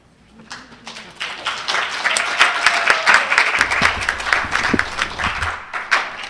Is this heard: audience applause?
yes